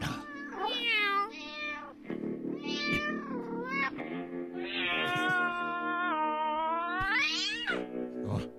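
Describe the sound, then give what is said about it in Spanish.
A black cat meows and caterwauls loudly, a string of drawn-out, wavering yowls ending in one long rising wail, with no talking. “Oh, ese gato.”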